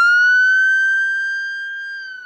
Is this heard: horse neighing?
no